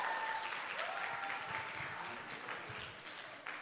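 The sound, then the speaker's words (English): Steady applause from an audience, a dense wash of many hands clapping at a fairly even level for several seconds, with a faint murmur of voices mixed in. “Give them a round of applause, ladies and gentlemen.”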